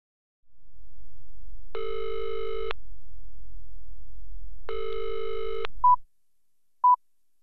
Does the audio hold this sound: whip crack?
no